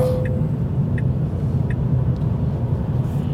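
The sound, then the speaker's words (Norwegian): Steady low engine rumble and road noise from inside a moving car, continuous and fairly loud, with a few faint ticking clicks in the background and no talking, as the car is driven briskly like a taxi and the throttle is pressed. “Nå kjører du veldig som en drosjåfør her”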